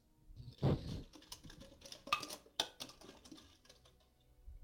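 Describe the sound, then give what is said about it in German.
Bottles clinking and knocking together in a handful of irregular hits: a heavier clunk first, then several sharper, brighter clinks and small taps, with no one talking. “Ihr könnt hier auch meine Flaschen hören, Moment.”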